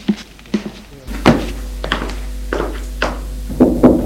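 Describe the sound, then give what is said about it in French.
Several dull, hollow knocks on a first-floor door, struck in loose, uneven pairs and singles over a few seconds, with a low steady hum underneath after the first couple of raps. “Premier étage, il va frapper à une porte.”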